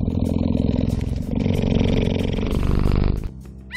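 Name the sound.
cheetah purring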